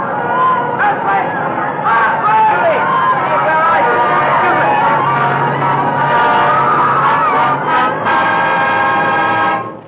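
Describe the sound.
A dense crowd outside screams and shouts in panic during an earthquake, many voices overlapping in a loud, continuous wall of sound for the full ten seconds, with a faint low rumbling drone underneath at moments.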